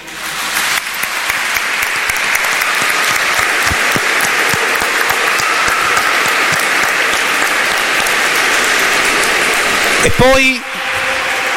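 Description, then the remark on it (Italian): A crowd applauds all the grandparents steadily, a dense, even wash of clapping that stays loud for about ten seconds, with a short rising whistle or vocal sweep near the end before it fades. “Allora ecco, io chiedo un applauso per tutti i nonni.”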